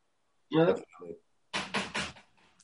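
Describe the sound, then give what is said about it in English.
A voice speaks briefly, then after a pause come three quick, fairly loud knocks in an even rhythm, like someone rapping on a door. “Was that a knock? Like some knock at somebody's door.”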